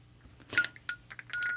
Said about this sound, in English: I hear. Oh, I'm being summoned. I've got to go. Oh, is that the bell from the Dowager Countess's chambers? I think she needs you to draw a bath.